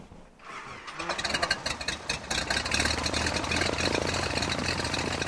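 Engine run-up of a gleaming white and blue Cessna 33702 Skymaster at Provincetown Municipal Airport: the piston engine cranks and catches after a brief quiet moment, then settles into a steady, loud, buzzing drone with a low rumble and a rapid pulsing beat.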